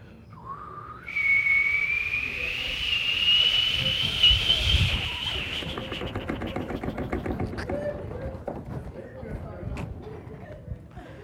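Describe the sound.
A pressure cooker's whistle rises sharply in pitch and holds as a loud, steady shriek over rushing steam hiss for several seconds, then fades into a softer sputtering hiss with voices underneath.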